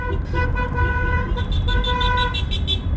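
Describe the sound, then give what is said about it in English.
Several car horns honk together in long sustained blasts over the steady rumble of traffic, loud, overlapping continuously as people in the cars alongside spontaneously celebrate on the road in Florianópolis, Brazil. “Spontaneous celebrations from the people in the cars beside us. We join in.”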